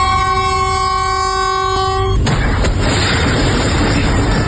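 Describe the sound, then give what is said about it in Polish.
During a level-crossing safety exercise on railway tracks in Warsaw's Praga district, a train horn blares a steady, multi-toned chord for about two seconds, then the train crashes into a car with a sudden loud crash that gives way to a continuous heavy roar and rumble. “Pociąg z prędkością wjeżdżał w samochód.”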